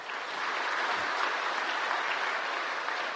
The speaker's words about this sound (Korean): 이 시간 성도님들에게 인사드릴 때 축복하는 마음으로 큰 박수 부탁드립니다.